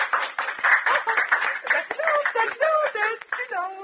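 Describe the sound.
Audience applause, a dense crackle of many hands clapping at steady loudness, with voices and laughter rising over it as the clapping goes on.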